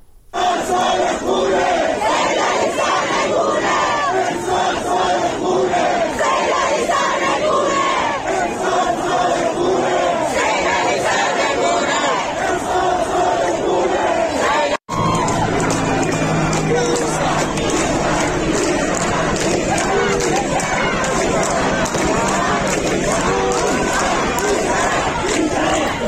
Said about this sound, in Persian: این صدا از عراق هست، مردم معترض، یعنی اونجا هم از آرامستان عراق فراتر رفته، در خیابان ها مردم معترضن که شعار میدن و اونجا هم درگیری شده، گاز اشکاور و تیراندازی صورت گرفته.